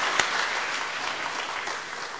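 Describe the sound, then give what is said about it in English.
A crowd gives a round of applause for a lawyer, clapping steadily in a dense, even patter of many hands at moderate loudness, with no voices over it. “So can we give a round of applause”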